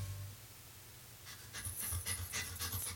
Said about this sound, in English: To some, this might sound like a typical family dog. But at Dog Chow, we know that for a veteran suffering from PTSD, this could be the sound of life-saving therapy.